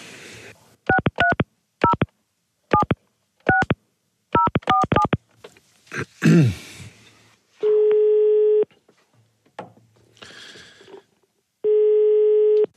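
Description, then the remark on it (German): A quick series of short telephone keypad tones is punched in to call someone for a telephone interview, followed by a brief rustle, then two long, steady ringing tones on the line separated by a pause. “Okay, dann brauche ich jetzt nur die Nummer.”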